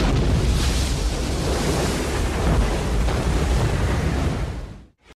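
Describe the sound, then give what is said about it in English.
A massive ocean wave crashes in a continuous, loud roar of churning water with wind-like rumble, sustained for several seconds before cutting off abruptly. “And I see it come racing towards me. God, the water's huge and it towers over me.”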